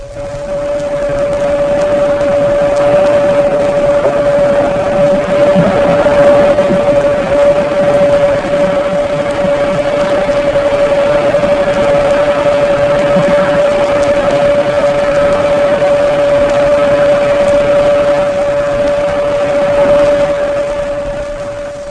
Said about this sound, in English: Remember that the newer submarines at low speeds produce a characteristic hum or whine, not always accompanied by the sound of the propellers.